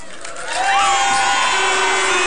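A large crowd cheers and whoops loudly in the evening at a homecoming celebration in County Kerry for a ladies' Gaelic football team bringing home silverware, a dense wash of voices swelling after a brief moment and holding steady, with a few shrill shouts rising above the roar.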